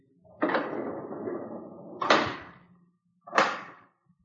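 A door opens with a drawn-out rattling scrape as someone goes out, then shuts with two solid knocks a moment apart, fairly loud, with no voices.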